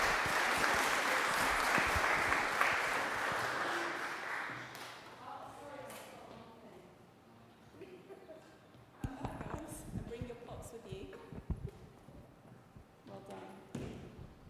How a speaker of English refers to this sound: Okay, well, can we give a clap to our Loot group? Because I think they've been very brave.